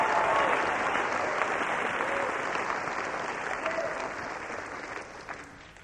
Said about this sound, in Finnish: Annetaan kunnon aplodit Jeesukselle. Halleluja!